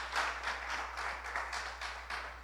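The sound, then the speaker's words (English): An audience claps steadily, a dense wash of many hands forming a continuous crackling patter at fairly even loudness, with no voices over it. “I thought the clapping was a good thing, but now it's gone like the reverse.”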